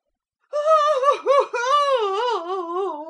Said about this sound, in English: A pause. Natalia Stepanovna wails.